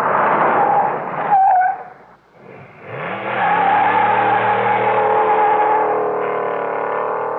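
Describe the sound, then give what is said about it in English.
A car engine hums steadily, briefly dies down as the car stops, then starts up again and revs as it pulls away, the motor droning loudly. No one speaks. “Your car. There are a lot of ways it can waste gas and money. Stopping and starting too much.”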